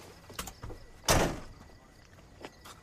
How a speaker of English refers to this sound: holds his truck door open for her.